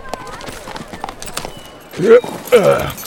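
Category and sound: animal, horses approaching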